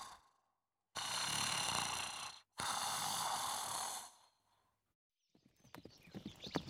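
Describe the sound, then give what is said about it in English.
Two long, breathy snoring sounds give way to a quick run of horse hooves clip-clopping, several sharp hoof strikes in an uneven rhythm near the end. “Then he goes to bed and dreams about riding a horse.”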